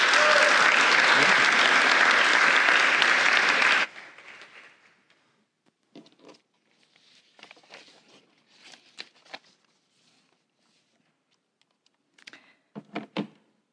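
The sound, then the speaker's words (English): The audience of Milford Hills United Methodist Church breaks into loud, dense applause for about four seconds as a missionary guest speaker comes to the pulpit, then it cuts off abruptly, leaving scattered soft thumps, shuffling and a few faint clicks in near-silence. “So let's give her a round of applause as she comes to the pulpit this morning.”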